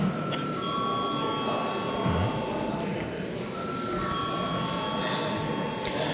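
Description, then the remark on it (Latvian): A parliament voting bell rings as a steady, high electronic tone in two long stretches with a brief break between them, held at an even level over a faint low murmur. “Par neviens nav pieteicies runāt, lūdzu zvanu.”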